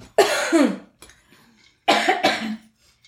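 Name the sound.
coughing fit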